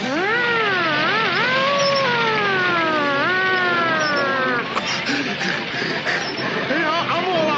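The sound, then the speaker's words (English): A person's voice wails up and down, mimicking a police siren in long rising and falling sweeps, loud, then breaks into choppier sounds toward the end, while another person drives. “Sarge, you be the siren for a while I drive.”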